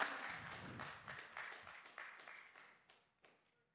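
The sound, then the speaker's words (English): An audience in a church claps together, a dense patter of many hands that thins out over a few seconds into scattered single claps before fading. “Hey, we can clap in this church.”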